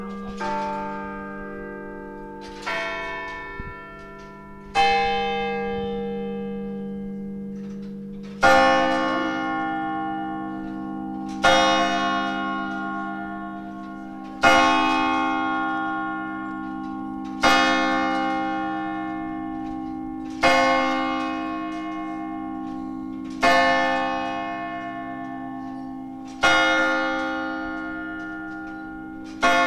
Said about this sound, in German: Und jetzt hören wir die Glocken des Michels.